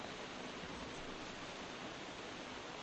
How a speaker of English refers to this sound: But I'm sure the farmers at least won't mind, and I'm sure we're all quite happy sitting here, dry and comfortable, and just listening to the sound of the rain on the roof, on the tent.